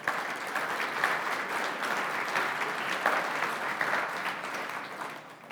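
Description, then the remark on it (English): A crowd applauds two people who both solved a puzzle correctly, a dense wash of many hands clapping at an even level that holds for several seconds before tapering slightly at the end, with no voices over it. “Did that clap feel good?”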